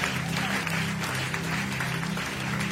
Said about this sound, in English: Clap your hands and give the Lord a big clap of praise.